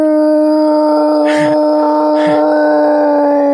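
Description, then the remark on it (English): A long, loud, sustained Bigfoot-style howl holds steady on one pitch for the whole few seconds, unbroken, with two short breathy noise bursts partway through. “Yeah, it's all just wood knocking and howling.”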